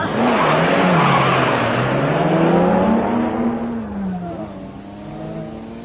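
A car engine roars and revs as the vehicle pulls away to be driven into the garage, with a rush of tire noise, the sound staying loud before easing off slightly toward the end. No one speaks.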